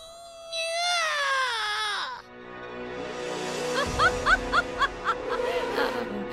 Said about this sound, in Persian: صبر کن، تو عاشق این جیغای بنفشه منی مثل این.